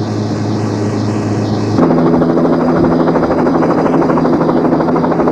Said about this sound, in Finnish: Siinä on helikopteri. Varmaankin seuraa meitä.